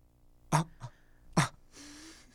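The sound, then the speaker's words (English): Two sharp, breathy gasps about a second apart, each a quick rush of air, followed by a softer drawn-out exhale; fairly loud with no talking. “I'm literally letting out gasps of air just because we have a podcast.”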